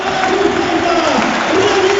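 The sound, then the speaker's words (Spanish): A stadium crowd at Balaídos gives a loud, sustained ovation for Yago Aspas as he is substituted, a dense wash of cheering and applause that holds steady throughout, with a few voices rising briefly above the roar. “Esa es la ovación para el Rey. Rendido el estadio.”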